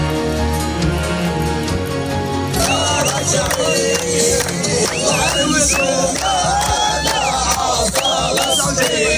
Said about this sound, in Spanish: Así como escuchas, con palmas, con bailes, con cánticos y echándose a la calle, han celebrado en Gaza el acuerdo de Israel y Hamas que abre la puerta a la esperanza.